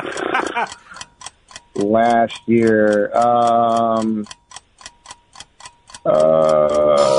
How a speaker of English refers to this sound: I'm sorry, there's the timer.